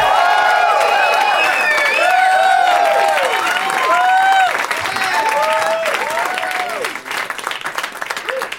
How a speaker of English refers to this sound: Nice clapping, white people.